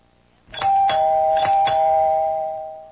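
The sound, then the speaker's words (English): A doorbell rings with a sustained two-tone chime, bright steady tones ringing on and fading slowly, with four sharp strikes marking the start of the pattern. No one speaks. “Will you answer the door”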